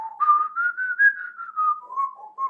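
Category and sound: whistled melody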